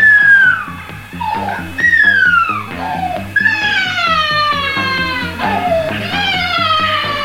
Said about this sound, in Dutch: Het geluid komt hoe langer hoe dichterbij. Ja. Dat is erg plezierig. Dit is een 6 volts brandweersirene.